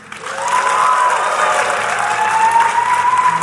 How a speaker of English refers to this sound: We're going to ask for your applause as a signifier of who won.